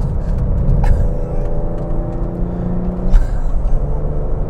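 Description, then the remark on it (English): A car engine rumbles steadily from inside the vehicle while driving, with deep low-end droning, a few brief clicks and bumps, and no one talking. “Jesus, this car just is unbelievable.”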